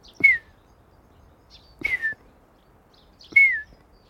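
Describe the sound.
A voice imitates a night bird's call: three single whistled notes, each sliding downward, repeated at an even, unhurried pace, clear with no talking.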